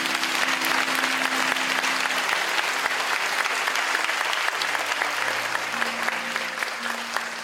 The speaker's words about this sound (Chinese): 我们将掌声给他。